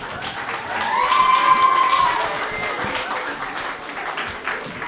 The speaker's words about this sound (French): Pour poursuivre, je vous demande d'applaudir les élèves de La Fontaine.